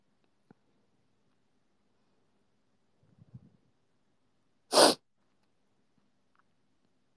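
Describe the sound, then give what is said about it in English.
A single sharp, explosive sneeze bursts out, preceded by a quiet sniffling breath, with near silence and a few faint clicks around it; a person sniffling in the morning. “I'm okay, it's just sniffles.”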